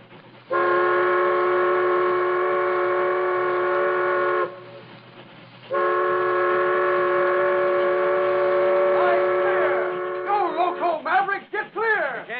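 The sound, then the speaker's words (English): An approaching supply train's whistle blows loud in two long, steady blasts separated by a short pause, then breaks into shorter wavering, bending toots at the end. “Oh, nobody'd hold up a supply train.”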